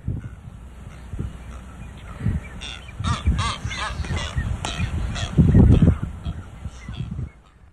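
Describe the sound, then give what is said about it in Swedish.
Blue-footed boobies calling on the island of Española: a male's series of thin, rising whistles answered by a female's lower, rougher bleating honks, repeated several times in an uneven back-and-forth with no talking. “Det är hanen som visslar och honan som svarar med ett lite bräkande läte.”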